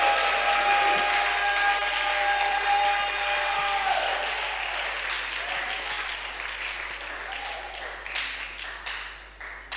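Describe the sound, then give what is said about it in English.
An audience breaks into sustained clapping and shouting to God's glory, a dense wash of applause with raised voices that stays loud before gradually thinning out toward the end. “If you know yours has been taking off now, give a big clap and a loud shout to God's glory.”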